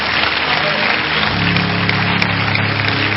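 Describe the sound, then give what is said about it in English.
A church audience claps for Jesus together in a dense, steady wash of applause for about three seconds, joined partway through by low, sustained musical tones underneath. “Clap for Jesus.”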